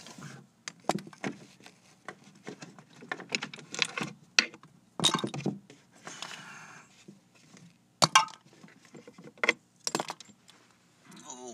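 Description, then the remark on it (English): About a dozen dropped pencils clatter and click as they're scooped up from behind a desk, an irregular series of light wooden taps and rattles with brief louder bursts of handling. “I just dropped some pencils behind this desk here.”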